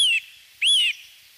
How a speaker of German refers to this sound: Das ist ein Adler. Ich muss sagen, das ist ein Adler, genau. Ein Weißkopfseeadler ist das.